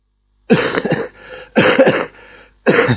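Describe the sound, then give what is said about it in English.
Three loud bursts of coughing with throaty clearing, each explosive hack trailing into a raspy rumble, separated by brief pauses. No one speaks. “I'll indulge in a cough.”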